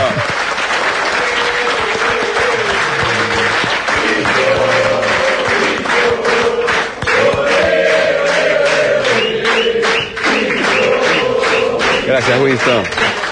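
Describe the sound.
A large audience breaks into loud, sustained applause, dense clapping rolling on steadily for several seconds with cheering voices and shouts mixed in throughout.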